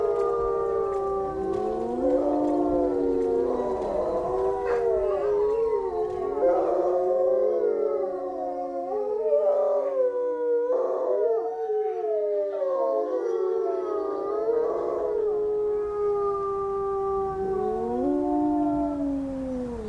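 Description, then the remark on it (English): A chorus of wolves howls together, several long rising and falling voices overlapping and weaving around each other continuously, fairly loud, with no talking. “We've left W behind us for wolves and the concept that these howling Mictíre, or sons of the land, could still be loping through the landscape.”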